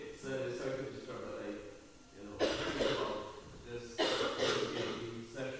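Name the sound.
woman coughing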